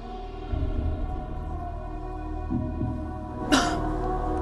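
A single sharp cough from a man breaks through a steady low hum, brief, with no talking around it.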